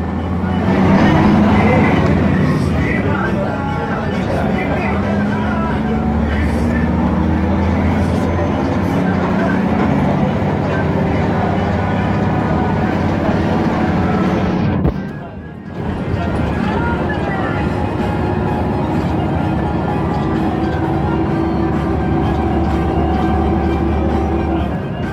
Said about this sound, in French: There is a record about the Murio buses. C'est un enregistrement des bus de Moria. Loudly, very noisy, very rash. Ils sont toujours très bruyants, très sonores.